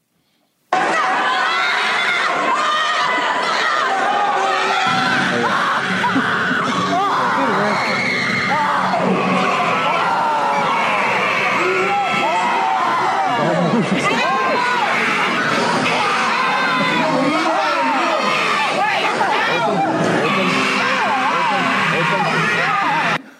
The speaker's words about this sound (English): Two arm wrestlers, the weightlifter, and the lady getting the tattoo screaming all at the same time.